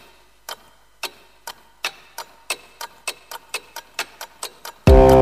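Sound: clock ticking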